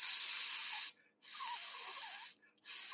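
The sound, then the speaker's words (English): A person hisses through their teeth, imitating a snake, in three sustained bursts separated by short pauses for breath, fairly loud with no other sounds. “That is the noise I am making. It sounds just like a snake.”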